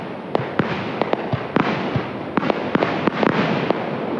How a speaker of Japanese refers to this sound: 大声を出すことが難しい昨今のイベント、普段とは違うおとなしい花火の音に泉ヶ岳で収録した自然の音を織り交ぜてみました。